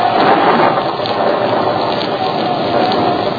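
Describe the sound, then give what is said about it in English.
A loud, unbroken roar of a gale at sea on the Pacific Ocean, with heavy rain-like hiss and pounding waves battering a 10,000-ton ship, blending into a dense, steady wash of noise throughout. “And in the very heart of the storm, battered and convulsed by the elements, the 10,000-ton Byzantium and her frightened crew struggle for survival against the pounding waves.”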